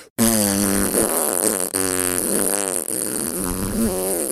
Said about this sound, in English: is literally farting. You think he's making that noise with his mouth? He's not.